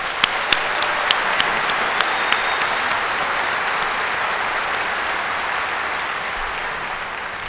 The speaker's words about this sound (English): I want to thank this committee that we just had a beautiful dinner together, and to hear how hard this committee has been working, I'd love you all to give a round of applause to them.